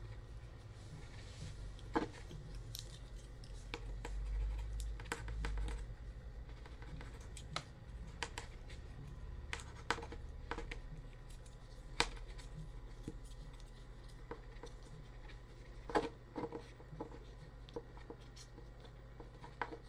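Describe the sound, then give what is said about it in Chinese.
Quiet scratching of a pen writing across a paper exam sheet, with irregular taps and strokes over a low steady hum, no voices. “把纸张试卷写完，慢慢等吧。”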